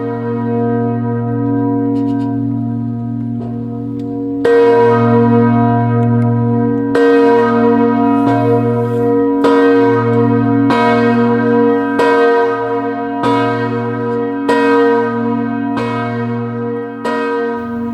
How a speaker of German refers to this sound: Tag läutet diese Glocke. Ihr Klang hallt über das Gelände des ehemaligen Konzentrationslagers in Dachau. Die Zeit erinnert an die Todesstunde Jesu am Kreuz.